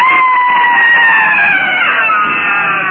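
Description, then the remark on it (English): A medicine man lets out a loud, sustained shriek as he throws a gourd from him, lasting about three seconds, high and piercing, sagging slightly in pitch toward the end. The cry is dominant, with no other sounds around it. “With a shriek, he throws the thing from him.”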